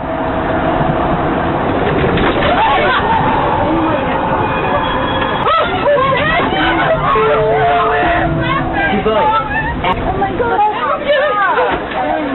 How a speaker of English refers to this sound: from an incident in September where a light rail in San Francisco flew into a curve at a high speed and jolted passengers after the driver dozed off. Here's the sound of the jolted passengers and the driver trying to calm people down.